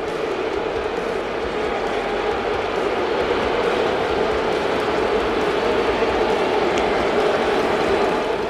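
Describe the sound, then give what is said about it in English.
A huge crowd at Yankee Stadium in the Bronx boos Jose Altuve and the Astros during an Astros–Yankees game, a Bronx cheer: a sustained, loud roar, a steady low-pitched 'boo' drone that barely lets up for the whole stretch, with no one speaking over it. “You ever wondered, what does a Bronx cheer sound like? It's this.”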